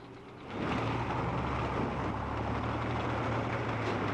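A car and a motorcycle braking in a field, heard as a loud, steady engine rumble that swells in after a brief pause and holds, with no voices.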